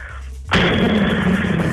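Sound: voice imitating an explosion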